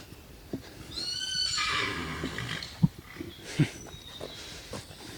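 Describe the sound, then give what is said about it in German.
A horse whinnies clearly, a drawn-out neigh with wavering high harmonics around a second long, followed by a few soft hoof thuds and snorts; no one speaks. “Ich glaube, das Pferd hat gewirrt, weil es unsere Mikrofone gesehen hat und wollte was sagen.”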